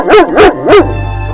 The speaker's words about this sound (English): There you go. How about that? Say the dog's name and she barks.